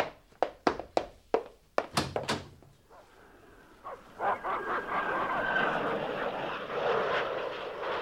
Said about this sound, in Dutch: Het vliegtuig dat wij net hoorden, dat vloog toch veel lager?